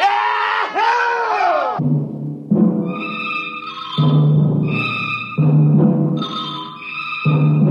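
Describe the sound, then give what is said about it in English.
Loud voices of Earthmen celebrating on Mars burst out in excited shouts at the start, followed by a sustained, layered rumble of sound with bright ringing tones that swell and cut off in blocks. “The voices got louder. The Earth laughs and shouts, echoing across the empty Martian sands.”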